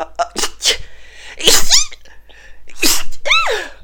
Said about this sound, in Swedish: Oj, jag måste nysa.